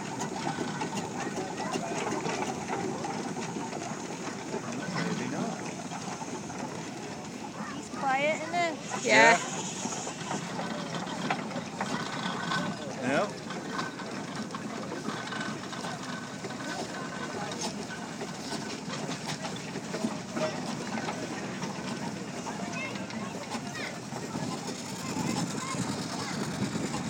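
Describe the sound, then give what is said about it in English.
An old tractor engine runs steadily, a continuous rhythmic mechanical clatter at moderate volume, with the flywheel turning and faint voices murmuring in the background. “this looks like it definitely is a tractor.”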